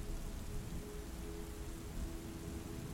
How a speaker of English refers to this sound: Slowly, over time, you feel light speckles of rain on your skin.